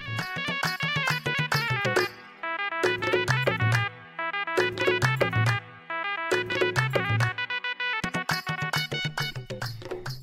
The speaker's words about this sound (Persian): تار و تنبور تقدیمتان میکنیم با ای آرزو که آنچه که تقدیمتان میشه تا به دلتان باشه و راضی باشید.